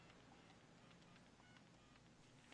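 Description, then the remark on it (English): A quick run of short electronic telephone keypad beeps as a phone number is being dialed, sounding faintly through a steady hiss, each tone brief and closely spaced. “I'm actually dialing your number.”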